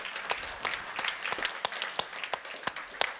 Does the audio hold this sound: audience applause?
yes